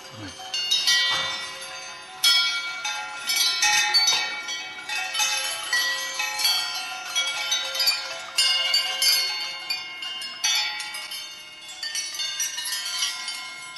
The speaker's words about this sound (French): Alors ça, c'est produit par des sortes de petites tasses en métal. Il y a des couverts aussi qui sont suspendus. Il m'a semblé voir parmi ces couverts des pièces d'argenterie.